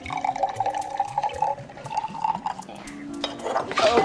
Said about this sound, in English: He pours more fluid into the vial, then spills it.